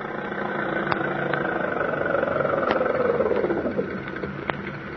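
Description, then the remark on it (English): A car engine runs steadily, its pitch sliding down as the car slows, with a few brief clicks and knocks over the continuous mid-range rumble. “Stop that car, huh?”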